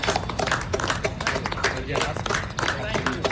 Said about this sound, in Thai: เสียงปรบมือจากหญิงชายเชื้อสายไทยผู้สวมใส่เครื่องแบบทหารของกองทัพสหรัฐเป็นอีกเสียงหนึ่งนะคะที่เข้าร่วมการแสดงออกเชิงสัญลักษณ์ที่แพร่หลายไปทั่วโลกเพื่อร่วมให้กำลังใจแพทย์พยาบาลและเจ้าหน้าที่สาธารณสุขในประเทศไทย